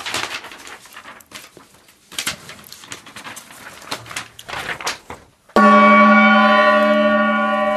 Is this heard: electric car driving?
no